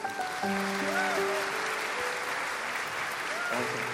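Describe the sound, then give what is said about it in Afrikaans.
Sustained applause from a crowd, a dense steady patter of many hands clapping throughout, with a few faint tonal notes and voices mixed in underneath. “Gaan ons wel een hande klap gee.”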